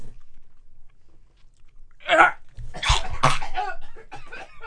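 Two people dry gagging after eating: a short choked heave, then a couple of harsher, throaty retching sounds in quick succession, with faint breathy vocal noise around them.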